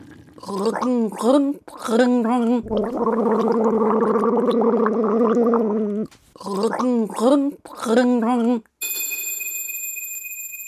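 Someone gargles a melody as a guessing puzzle, bubbly watery warbling phrases with short breaks and one long sustained stretch, ending in a brief ringing bell-like tone.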